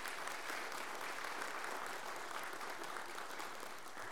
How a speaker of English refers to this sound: So I want to say on behalf of First Baptist Church of Elon, congratulations. You deserve that congratulations. So let's have a round of applause for all of our graduates this morning.